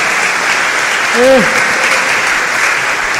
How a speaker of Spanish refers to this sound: San Juan Pablo II, otro aplauso al Papa, otro aplauso al Papa.